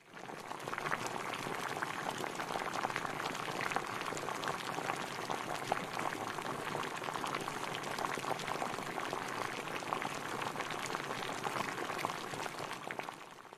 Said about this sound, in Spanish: ¿Cuál de las tres diríais? Yo diría agua hirviendo.